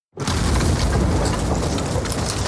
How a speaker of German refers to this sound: Dann kracht es laut und das Eis, auf dem sie stehen, bricht vom Festland ab.